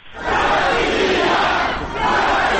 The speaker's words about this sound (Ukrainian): Послухаємо звукову картинку з мітингу.